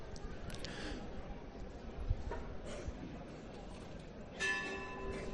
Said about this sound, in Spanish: Sonido de la campana, siguen saliendo los hermanos en esta calle San Antón,